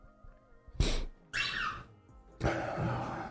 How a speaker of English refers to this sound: My wife keeps stepping on a squeaky dog bone. It's this big. You have a whole room to walk. She steps on the one dog bone. Twice. I'm going to put that at our front door to block us against robberies. Damn dog bone. Squeak.